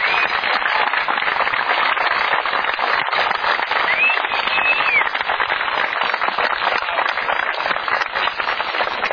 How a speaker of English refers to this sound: these guys are the ones that really put in their time, and they didn't get the salary, so have a round of applause for them.